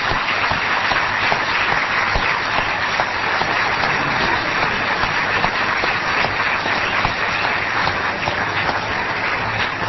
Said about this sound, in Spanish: De todos modos, sería bueno que para los que están simplemente escuchando, ustedes se hicieran sentir. ¿De qué manera? ¿Tienen alguna forma de mostrar cuántos son? A ver, por ejemplo, ¿por qué no aplauden a quienes nos acompañan hoy en la mesa?